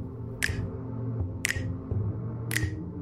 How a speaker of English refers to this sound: Perhaps some are clapping or snapping fingers. Snapping fingers is easy to do.